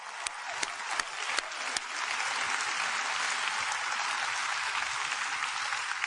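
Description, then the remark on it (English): An audience breaks into applause, starting with a few sharp, scattered claps that quickly swell into a steady, dense wash of clapping that holds at an even level throughout. “Clap that up.”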